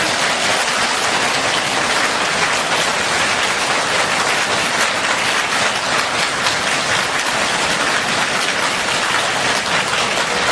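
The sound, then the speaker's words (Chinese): A large audience claps warmly and steadily to welcome Master Lu Junhong at a gathering of Buddhist friends and guests, a dense, loud wash of applause that holds without a break for about ten seconds, with no voices over it. “现在尊敬的卢军宏台长将为我们慈悲开示，让我们用最热烈的掌声恭请我们尊敬的卢军宏台长。”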